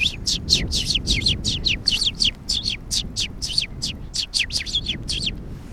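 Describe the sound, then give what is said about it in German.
A sparrow's nest song of rapid, high chirping notes repeated in quick succession throughout, over a low rumble of background noise with no talking. “Der Nestgesang. Das war jetzt das Ganze einmal oder haben Sie es gleich 2, 3 Mal gemacht, zur Sicherheit?”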